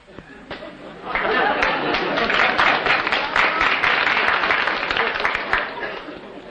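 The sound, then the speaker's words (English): An audience breaks into applause, a dense crackle of many hands clapping that swells after the first second and stays loud and steady, with crowd chatter blended underneath. “I hear a lot of people applauding.”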